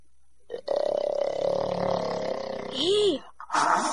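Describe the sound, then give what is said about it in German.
A voice imitates the loud snoring of a man-eating ogre sleeping off his drunkenness: a long, rumbling, growly snore lasting about two seconds, then a swooping snort and a short breathy hiss. No words are spoken. “Bald schnarchte er so laut, dass das ganze Haus zitterte.”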